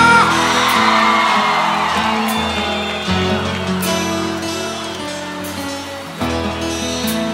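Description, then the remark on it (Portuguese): A crowd whoops and shouts over loud live band music, the cheering strongest in the first couple of seconds and staying thick and steady underneath as the music keeps playing. “Cadê o grito da galera apaixonada?”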